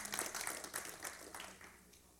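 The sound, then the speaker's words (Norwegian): An audience applauding to give honor to Jesus, a dense patter of many hands clapping that starts strong and gradually thins and softens over a couple of seconds. “Halleluja, det er verdig å gi ham ære og klapp.”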